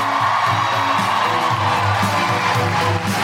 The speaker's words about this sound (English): If you'd like it to be a revolution, teacher of Archie, clap now. Keep that applause going for the one, the only, the legendary, my favourite,